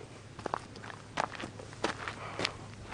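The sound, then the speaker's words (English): Footsteps walking outdoors up to look at an old building, at a steady, unhurried pace, each step a soft crunch spaced about two-thirds of a second apart, fairly quiet over a faint background hum with no talking. “I'll walk up here and look at this old place.”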